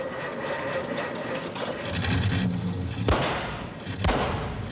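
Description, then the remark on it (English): A truck engine rumbles and rattles steadily, then backfires with two sharp, loud bangs about a second apart, in a scene where Tuvok reacts to it. Each bang is a sudden explosive pop, and the engine keeps chugging afterward. “But I love this moment, because what really makes it is Tuvok's reaction when the truck backfires.”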